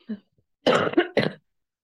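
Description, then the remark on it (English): A short throat noise followed by two loud, forceful coughs, with no talking around them. “Sorry, cough button.”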